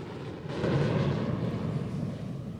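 A deep, steady roar swells in after a brief quiet moment and holds at a loud level, like an airplane passing overhead. There is no talking.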